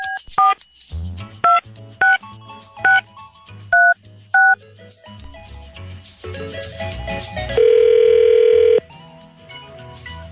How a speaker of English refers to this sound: Call him back right now. Okay. And we're dialing.